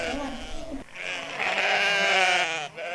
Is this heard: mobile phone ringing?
no